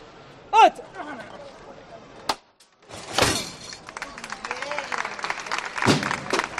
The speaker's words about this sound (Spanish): Se levanta el palio de la Virgen del Sol. Aplausos aquí en la Plaza Nueva.